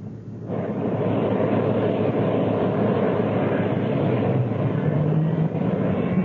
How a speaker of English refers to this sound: Very well. Fire up your engines.